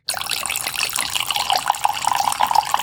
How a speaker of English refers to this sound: So let's go ahead and get to pouring this wine. Let's just pour a little bit for starters.